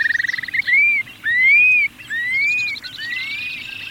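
A prairie shorebird's whistles, dropping from the sky over its prairie breeding grounds: a quick bubbling trill, then three long, clear, slurred whistles that rise and fall, ending in a softer warble, over a low steady background rumble.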